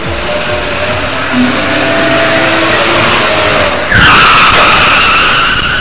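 A motorcycle engine roars and brakes hard as it stops on a big meadow outside town, tires skidding with a gritty squeal that swells into a louder, higher screech near the end as it slides to a stop.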